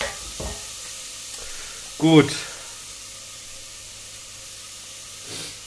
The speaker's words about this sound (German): Also dann ab damit in die heiße Butter. So. Oh, sehr schön. Einmal mit dem Pfannenwender durchrühren. So.